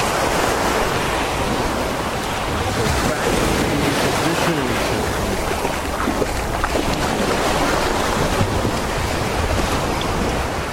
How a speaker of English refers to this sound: Look at the waves are way out.